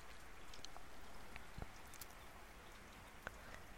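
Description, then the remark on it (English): Steady rain pours down on an island in a dense, hissing wash, with a few sharper drops tapping against a surface. No voices, just the continuous downpour throughout. “And indeed, it's as if the island has heard me, because the rain is coming in earnest now.”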